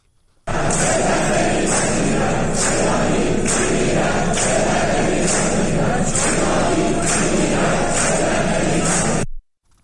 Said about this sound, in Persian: صدای دانشجویان دانشکده مکانیک خواجه نصیر در حالی که دانشگاه در محاصره یگان ویژه بود را بشنویم که فریاد می‌زنند ایرانی می‌میرد، ذلت نمی‌پذیرد.